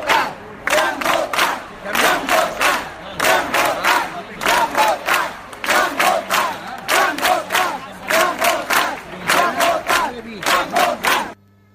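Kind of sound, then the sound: crowd, crowd chanting a slogan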